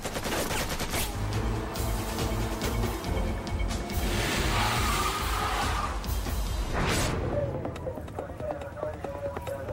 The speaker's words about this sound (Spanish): Dispararon justo a lo largo de la banda negra del típico autobús escolar, la que se encuentra a nivel del piso, de modo que incluso las personas que se estarían escondiendo para cubrirse habrían recibido disparos desde el otro lado del autobús.